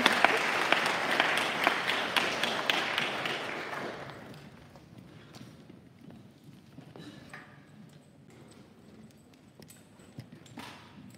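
A burst of warm, hearty audience applause, loud and dense with rapid overlapping claps, fades out after about four seconds, leaving quiet with faint scattered sounds.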